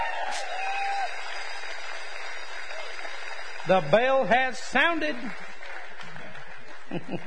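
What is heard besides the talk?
audience applauding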